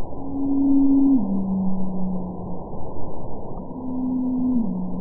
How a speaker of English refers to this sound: Over the years, these eavesdropping biologists have noticed a mysterious trend that certain blue whale calls are gradually lowering in pitch over time. For example, here's a call from 2002, followed by one from 2017.